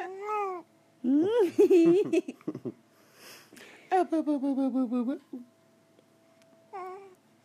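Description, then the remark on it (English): An infant girl babbles and coos in bursts of high, sing-song vocalizations, some squealing and giggly, with short pauses between strings of sounds. “She's making all kinds of new sounds.”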